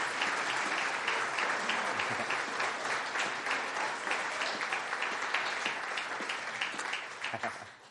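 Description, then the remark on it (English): A crowd at a gathering in Caterham claps steadily for a woman's birthday, in a dense, continuous burst of applause that holds strong for several seconds, then begins to taper off at the end. “I think a big round of applause.”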